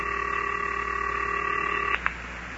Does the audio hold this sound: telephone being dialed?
yes